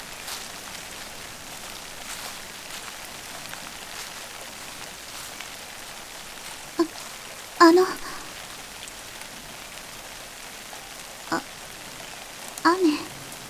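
Steady rain patters on a surface in a continuous hiss, with a few louder drips or splashes standing out now and then, like water dropping from an umbrella's edge.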